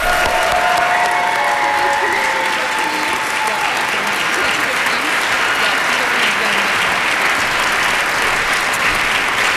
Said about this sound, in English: They're from Ogilvy, so if you give them a really warm applause